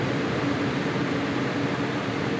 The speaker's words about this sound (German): Zwei Entlüfter rauschen laut. Sie sollen dafür sorgen, dass der Klärschlammgeruch erträglich ist, was nicht ganz gelingt.